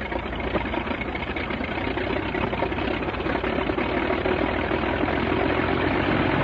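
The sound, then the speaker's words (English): A 180-horsepower Mercedes six-cylinder German World War I aircraft engine idles, a loud, steady, rough mechanical rumble with a dense, even drone that holds constant throughout, with no voices. “This engine is a 180 horsepower Mercedes six-cylinder engine, the most famous of all the aircraft engines used by the Germans during World War I.”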